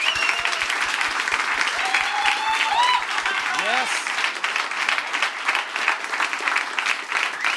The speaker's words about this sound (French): Mesdames et messieurs, voici, donnez une bonne main d'applaudissements